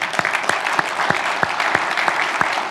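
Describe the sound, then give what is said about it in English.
An audience applauding the event's sponsors, dense steady clapping with sharper individual claps popping out of the wash, fairly loud, with no talking. “I think another round of applause.”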